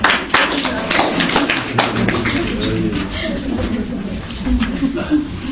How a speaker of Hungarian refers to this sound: Na, tapsoljuk meg a gyerekek.